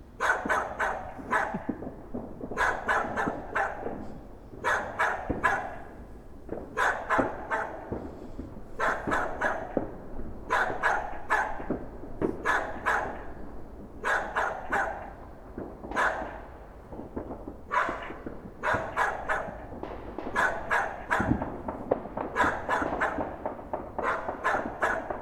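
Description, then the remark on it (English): A dog barks over and over in quick clusters of two or three sharp, loud barks, continuing steadily for the whole stretch with no one speaking. “Actually, I think he's barking at you.”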